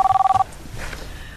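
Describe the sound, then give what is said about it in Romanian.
A telephone rings with a quick, warbling electronic trill of about nine rapid pulses, loud, then cuts off, leaving faint background noise behind. “E telefonul Măriucăi.”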